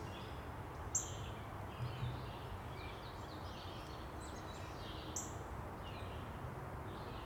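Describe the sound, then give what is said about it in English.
A few short, high-pitched bird chirps come at scattered intervals, faint, over a steady hiss of outdoor background noise with no talking. “I keep getting distracted by the birds. See if I can get this guy to chirp up again.”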